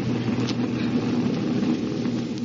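An airplane engine drones steadily in flight 5,000 feet in the air, headed for Palm Springs, a continuous low hum with a buzzing tonal edge that holds an even loudness throughout, with no voices.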